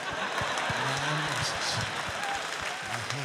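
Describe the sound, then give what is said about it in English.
A man softly claps his hands in a series of soft, roughly evenly spaced claps that patter across a steady hiss while a low voice murmurs underneath. “He softly claps his hands.”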